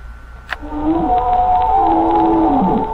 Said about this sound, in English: Please leave a message after the pretentious whale song.